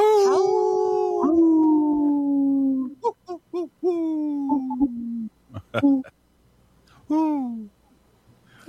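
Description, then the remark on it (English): A voice imitates a wolf howl: one long, falling, wavering call, then a string of short hooting yelps and a final brief howl. It comes across more like an owl's hoot than a wolf. “That sounds more like an owl than a wolf.”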